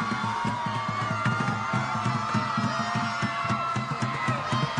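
A large crowd of protesters screams and yells together at Scream at the Sky Day in 2017, in a loud, sustained roar that never lets up, with a steady rhythmic low thumping running underneath the whole time.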